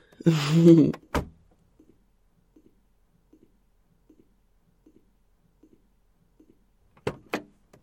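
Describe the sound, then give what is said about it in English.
A door is handled and opened: a short rattling scrape, a sharp clunk, faint regular ticking, then two more solid knocks as it settles at the end. “If you would get the door, please.”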